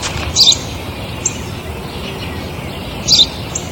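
A sparrow chirps in two short, bright bursts a few seconds apart, with a fainter chirp between them, over a steady low outdoor hum.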